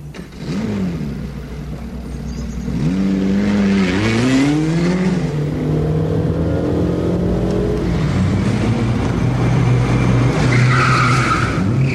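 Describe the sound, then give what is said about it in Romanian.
A small car's engine revs hard and pulls away at speed, pitch rising through several gear changes, with tires squealing as it races off, loud throughout. “Îți place beția vitezei? Îmi place, dar mașina asta e așa de incomodă, e prea mică.”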